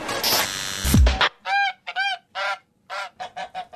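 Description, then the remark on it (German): A goose from Lower Saxony honks loudly, about eight nasal calls in quick, uneven succession, after a brief burst of rustling noise at the start. “Meine Gans kommt Gott sei Dank aus Niedersachsen und spricht Hochdeutsch.”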